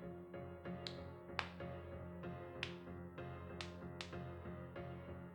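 Strange clicking sounds at night, sharp, irregular clicks ringing out one after another, roughly a dozen over several seconds, some louder and brighter than others, over a steady low hum with no voices.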